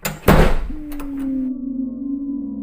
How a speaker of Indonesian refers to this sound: Spontan ku tutup pintu kamarku.